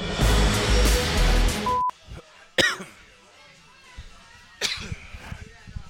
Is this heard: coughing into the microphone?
yes